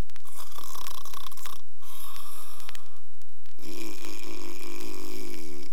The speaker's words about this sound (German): Als sie auf die Wiese kam, so lag da der Wolf an dem Baum und schnarchte, dass die Äste zitterten.